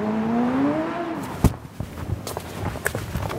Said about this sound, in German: Tel Aviv, gestern um etwa 15.30 Uhr. Ein Motorradfahrer rast über eine Kreuzung, um noch bei Grün über die Ampel zu kommen.